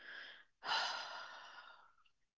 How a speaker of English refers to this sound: begin by bringing your awareness to your breath. Not forcing, no striving, just simply breathing. Inhale deeply through your nose and exhale fully through your mouth.